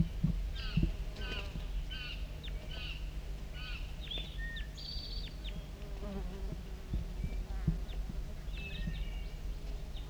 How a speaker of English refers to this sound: We're recording close contact calls of a wild bird.